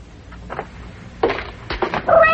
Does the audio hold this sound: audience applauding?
no